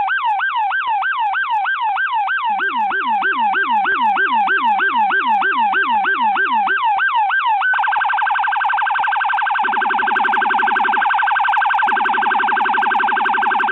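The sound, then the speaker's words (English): A loud New York City police car siren yelps rapidly, then shifts to a steady, piercing tone, while a deep, booming low-pitched siren sweeps underneath and later pulses in short bursts. No one speaks. “Now you can't really appreciate the full bass of what you're hearing there with the low pitch noise, but if you've been in New York City, you've probably heard this over the last few weeks.”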